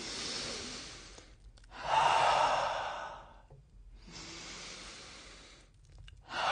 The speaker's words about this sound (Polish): Uwaga, głębokie oddychanie. 3, 4.